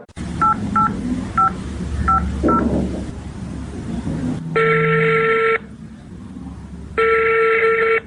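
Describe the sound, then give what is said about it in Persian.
A phone number is dialed to call the ministry, with a quick run of five short touch-tone beeps, followed by two long, loud ringback tones separated by a pause, over a low background hum. “تو باش ما وزارت زنگ بزنم که گپ از چی خبر است.”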